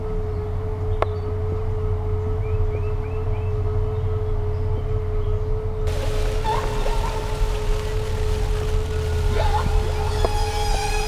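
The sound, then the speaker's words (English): A whale call from Henry the Hudson Whale: a long, steady hum with a deep rumble underneath, soft rising whistles drifting over it, and a brighter wash of sound with short upward sweeps in the second half. “we tell stories about the Hudson River to our friend Henry the Hudson Whale”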